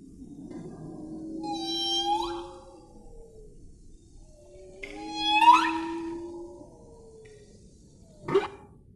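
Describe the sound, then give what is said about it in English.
Whale song: two long, rich phrases of sliding squeals and low moans, each swelling and fading, followed by a short sharp burst near the end. No one speaks. “All the whales are doing it.”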